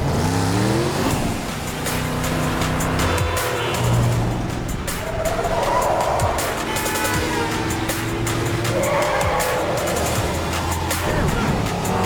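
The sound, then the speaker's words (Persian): Motorcycle engines roar and rev at high speed while tires squeal in long, shrill bursts, a loud, continuous chase with no talking. “جدا بشیم، ما ترتیب این موتورا رو میدیم.”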